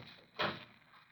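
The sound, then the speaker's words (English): A door is unlocked and opened with one brief burst of rattling and creaking, with no voices. “I unlocked the door and opened it.”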